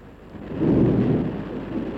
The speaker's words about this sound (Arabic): إيه هذا المطر هو يصبح. إيه وغزير غزير الله يبارك.